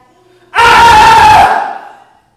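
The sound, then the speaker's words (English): A loud burst of many people screaming together breaks out suddenly, holds for about a second at full strength, then fades away with a short echoing tail. “When the people saw this, they screamed and they fell on their faces.”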